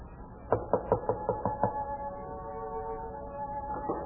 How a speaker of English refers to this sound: Who knocks at this hour?